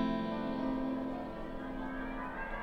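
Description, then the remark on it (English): A dense, sustained tone washes through a tape space echo unit being demonstrated, its repeats smearing into a swirling, whooshing wall of sound that holds steady and loud for a few seconds, with no voices. “Well, and also we were saying on that track, you can hear the space echo right there in the top.”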